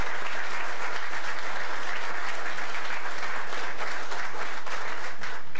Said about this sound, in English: Lots of standing applause